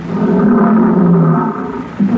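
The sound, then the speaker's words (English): Lions about 15 feet away roar: a deep, rumbling, sustained growl lasting over a second fades briefly, then a second roar starts to swell. No one speaks. “Oh, here come the lions.”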